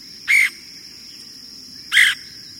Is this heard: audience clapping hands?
no